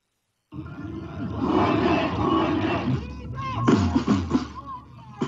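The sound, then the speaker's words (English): A large crowd roars and shouts outside the State Chancellery building in Tbilisi, Georgia, protesting the arrest of opposition leader Nika Melia; a dense wash of many voices that swells, then breaks into sharper bursts of cheering and yelling near the end. “A large crowd gathered outside of Tbilisi State Chancellery Building on Tuesday in protest against the arrest of Georgia's main opposition leader, Nika Melia.”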